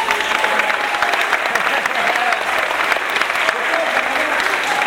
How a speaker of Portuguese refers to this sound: Uma salva de palmas para você.